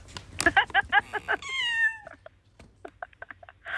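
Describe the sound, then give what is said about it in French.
Bengal cats, one named Bernie, meowing: a quick run of short chirpy calls, then one long drawn-out meow sliding downward, followed by softer, scattered little chirps. “Ah, vous avez vu le miaulement, ils sont intrigués.”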